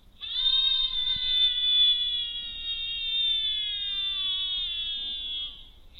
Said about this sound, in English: So it's playing the audio of the screams, and it's also recording the audio,